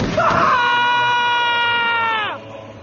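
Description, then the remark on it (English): A woman lets out one long, piercing scream of pain as a beam cuts down her spine and burns her back. The scream is held at a steady high pitch for about two seconds before it breaks off and drops away, loud. “When she heard Det scream, she twisted, bringing up her ZKR.”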